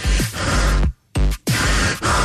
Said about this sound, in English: Someone in the room was breathing hard. I don't know. Maybe me. I was kind of dancing and moving.